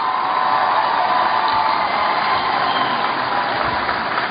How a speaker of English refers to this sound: Give Alethea a big round of applause.